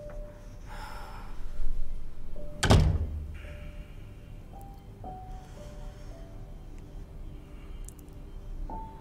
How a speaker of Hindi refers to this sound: खोल दो, दरवाजा खुल गया।